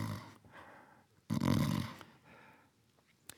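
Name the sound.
imitated snoring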